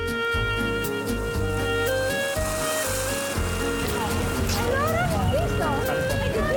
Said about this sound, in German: Abendstimmung an der Promenade. Es geht ein leichter Wind, die Sonne glitzert auf dem Meer. Noch ein Eis beim gesetzten Flanieren, ein letzter Spaziergang im knietiefen Wasser. Die meisten Sonnenschirme sind schon eingeklappt.